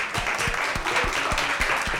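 An audience applauds steadily, a dense wash of many hands clapping with a few sharper, louder claps standing out in a loose rhythm throughout.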